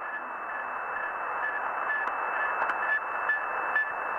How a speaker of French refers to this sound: En octobre 1957, les Russes marquent un point dans la conquête de l'espace. Ce bip-bip que vous entendez est émis par Sputnik, le premier satellite placé en orbite autour de la Terre.